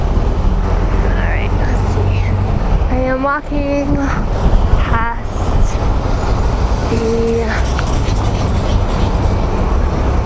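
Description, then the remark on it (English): A steady, loud roar of passing street traffic in Boston, with deep engine rumble and a few brief whining tones midway; a man walking across the street speaks a few words over the din. “I'm across the street.”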